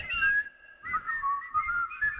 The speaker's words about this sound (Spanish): Cuando no está Eri sale peor el silbido. Sí, se nota.